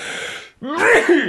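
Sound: a sneeze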